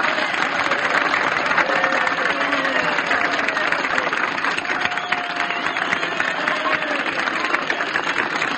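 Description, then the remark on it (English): An audience applauds an orchestra steadily for several seconds, a dense, crackling wash of many hands clapping at an even loudness, with faint crowd voices mixed in. “You will take bows at anybody's applause for anything.”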